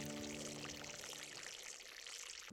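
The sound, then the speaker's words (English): A steady, crackling sizzle of fry bread dough frying in a hot skillet on a stove, dense with tiny popping bubbles, a faint low hum under the start and a sharp knock at the very end. “Drop the dough in the skillet. The bubbles sizzle and pop.”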